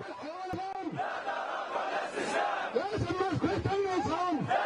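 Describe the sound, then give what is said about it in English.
A crowd of over 100,000 anti-government protesters in Tahrir Square chants in unison in the morning on the Day of Departure, pushing to force President Hosni Mubarak from power; loud voices repeat short rising-and-falling phrases in a steady rhythm over a constant roar of many people. “Sound of chanting from a little earlier this morning.”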